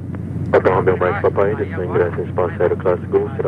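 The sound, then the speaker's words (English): A steady low helicopter drone, from a helicopter flying just above the tree line over the Amazon rainforest where wildfires are burning, hums continuously beneath a person talking, the rotor noise constant and fairly loud throughout. “But a closer look from a helicopter just above the tree line might be even more troubling.”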